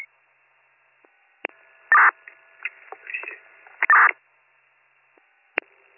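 A dispatch call taker dials back a 911 cell phone hang-up in the area of 3535 Long Hill Ave over a tinny, narrowband radio line: a few sharp clicks, a couple of louder tonal bursts and scattered beeps at an irregular pace, with no voices.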